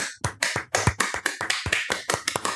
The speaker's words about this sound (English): Yes, I was clapping. Those were my hands that were making those sounds.